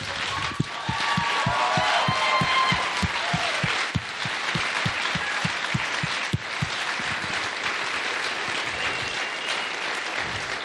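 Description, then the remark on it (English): A large crowd applauds loudly and steadily for about ten seconds to recognize veterans standing up, with a rhythmic clapping pulse in the first few seconds before it becomes a dense, even wash of applause. “Let's give you a big round of applause.”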